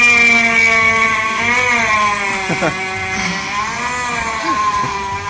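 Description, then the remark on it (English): A vacuum cleaner runs continuously, a loud, steady motor whine with a buzzing harmonic hum whose pitch wavers slightly up and down throughout. “Sounds like a vacuum cleaner.”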